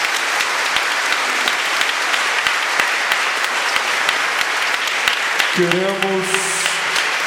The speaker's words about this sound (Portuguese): Por isso, a comunidade de Santo Antônio, vamos dar uma salva de palmas, bem bonito, gente. Bem forte.